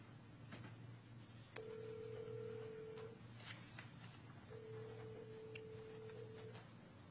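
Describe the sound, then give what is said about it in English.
A phone line rings out twice through a speaker as staff place a phone call during a June 15, 2015 Open Space Advisory Committee meeting. Each steady electronic ringback tone lasts a couple of seconds with a pause between, over a low hum and faint clicks. “We're going to get Alan Welch on the phone, so we'll give staff a minute to accomplish that.”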